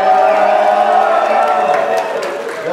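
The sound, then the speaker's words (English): A loud crowd cheers and yells in a dense, sustained roar, with scattered claps breaking through toward the end as the noise eases slightly. “Without him, so make some noise.”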